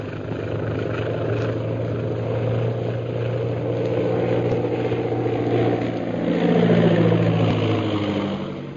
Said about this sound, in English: If we weren't in radio communication with Yangtze at this very moment, guiding him down, I'd swear it was a government scout plane on patrol duty.